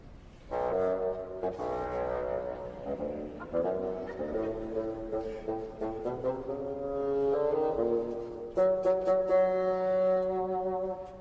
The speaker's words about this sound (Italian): Il nonno lo fa il fagotto.